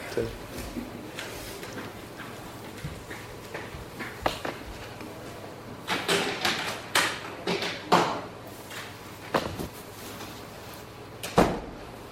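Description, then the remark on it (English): At a small gathering, a door is handled and shut, giving a run of sharp wooden clunks and thuds, with a final firm knock near the end. “Can we close that door?”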